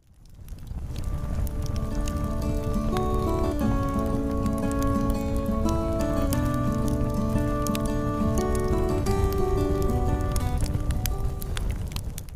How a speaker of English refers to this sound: Hey, do I hear a campfire? Do I hear a campfire tune?